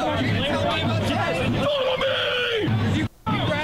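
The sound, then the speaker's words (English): A dense crowd at a march roars and shouts over itself as white supremacists and Antifa clash and people hit each other, raised voices bellowing and yelling continuously, one strained shout rising above the din before a brief drop and the clamor resumes. “People hitting each other.”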